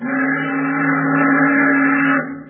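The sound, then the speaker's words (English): A tramp steamer, a freighter, blows its steam whistle in one long, loud, steady blast with a deep harmonic drone, holding for about two seconds before cutting off abruptly. “What's the tramp whistling for, Daddy?”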